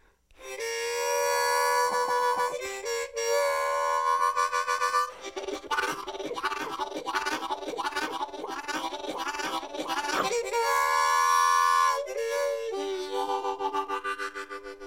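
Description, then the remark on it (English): A harmonica imitates a bluegrass-style train: long wailing draw chords bending three reeds at once like a whistle, hands closing and opening around it, then a fast steady chugging rhythm of huffed chords, ending with more whistle wails. Loud and solo, with no talking. “everybody wants to sound like a train, and for some of you beginner players, there's a lot of train songs in bluegrass”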